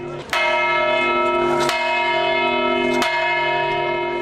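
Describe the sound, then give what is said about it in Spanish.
The bell of the Torre de la Vela at the Alhambra in Granada, Spain, rings loudly during Holy Week as the Virgin's procession crosses the citadel, struck three times at a slow, steady pace, each clang blending into a rich, sustained hum that never fully fades between strokes. “Campana de la Torre de la Vela de la Alhambra también se suma a la banda sonora de la Semana Santa granadina.”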